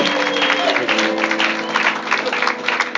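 An audience claps steadily in a dense, continuous burst of applause lasting several seconds, with a low sustained musical tone humming underneath and faint voices mixed in.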